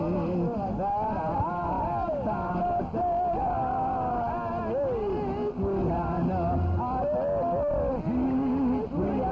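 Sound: woman screaming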